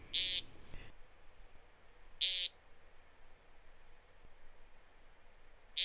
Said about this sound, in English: He flies in low from some neighboring thicket, alights on the bare moss, and at once begins the overture, a series of queer, throaty peents spaced about 2 seconds apart and sounding much like the summer call of the nighthawk.